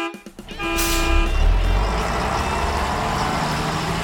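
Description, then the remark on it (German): A large, overcrowded bus's engine kicks into a loud rumble as the driver starts it, with a brief horn-like tone at the start, then settles into a steady heavy roar as the bus pulls away from the stop. “Ohne auf mein Winken zu achten, ließ der Fahrer den Motor an und fuhr los.”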